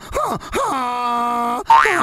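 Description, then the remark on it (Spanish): A person's voice imitates the bray of their female donkey: two short rising-falling whoops, then a long sustained nasal honk, ending with another wavering rising cry. Loud and voiced, with no other talk. “Por ejemplo, mi burra me mira de lejos y... ¿Cómo le hace?”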